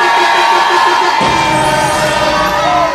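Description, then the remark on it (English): A large crowd cheers and shouts in a loud, steady roar as a host introduces a new artist, with scattered whoops and high yells rising above the din throughout. “Make some motherfucking noise.”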